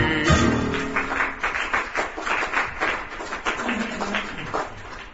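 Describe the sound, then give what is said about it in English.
An audience in a very old building claps steadily for several seconds, a dense patter of many hands, with a few scattered voices calling out briefly beneath the applause. “Don't clap too hard.”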